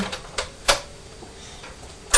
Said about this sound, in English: Yeah. You're ringing the bell. Does that sound like the bell in the lift yesterday?